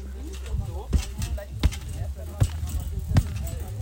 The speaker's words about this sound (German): Das ist ein Trampolin. Ein Trampolin im Gartenteich.